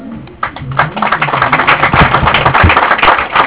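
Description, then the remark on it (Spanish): An audience breaks into applause welcoming Silvario Cocha, vice-president of the Ecuadorian organization Ecuarimari: a dense, steady patter of many hands clapping that starts after a brief quiet moment and keeps going at an even, fairly loud level to the end. “Pido para él un caluroso aplauso.”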